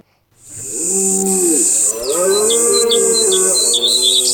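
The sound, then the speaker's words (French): Quick, high bird chirps repeat in a rapid series over a loud, drawn-out lowing call, like a cow mooing, with a steady bright hiss in the background. “Rentre-toi, on fait peur aux oiseaux.”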